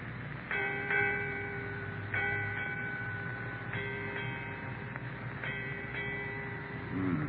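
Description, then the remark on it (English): A ship's bell strikes eight times in four evenly spaced pairs, each clang ringing on with a bright, sustained metallic tone over a steady low rumbling background. “Eight bells, Captain.”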